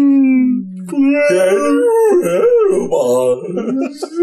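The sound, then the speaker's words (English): A person imitates a whale call, a loud, drawn-out wavering moan that swoops up and down in pitch for about four seconds, with a brief break near the start. “Just my half whale sound, half human sound.”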